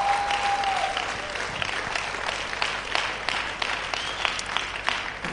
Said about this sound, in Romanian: Tu ești pentru prima dată? Tu ai, și acolo, hai să aplaudăm. Prima dată între noi. Bine ați venit!